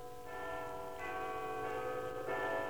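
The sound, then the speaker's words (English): A clock chimes two o'clock with slow, ringing bell tones, each new strike landing before the last one fades, so the sound stays continuous and resonant. It is fairly quiet and heard alone, with no talking. “The clock chimed 2 o'clock. A slow and desolate 2.”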